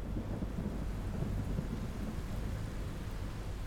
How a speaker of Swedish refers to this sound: Det enda ljudet som kom var ifrån det kraftiga regnet som smattrade mot fönsterblecket. Det hade börjat åska.